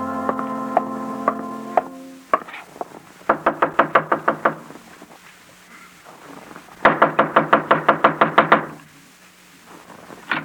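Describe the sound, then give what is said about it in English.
Brisk knocking on a wooden door in the morning comes in two quick bursts of about six to eight raps each, loud, after a few sustained tones and scattered thumps at the start. “Not even an early knocker on my door.”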